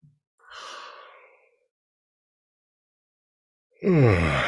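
yawning

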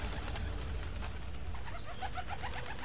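pigeons cooing

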